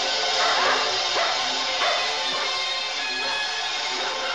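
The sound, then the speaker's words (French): A pack of hunting dogs trained by humans barks and yelps excitedly while chasing animals through a burning forest, several overlapping voices in a continuous frantic chorus over a dense, noisy background, fairly loud throughout. “Ils s'élancèrent, poursuivis par les chiens de chasse dressés par l'homme, dans la forêt qui flambait, où les arbres incandescents s'abattaient dans des gerbes de braises et d'étincelles.”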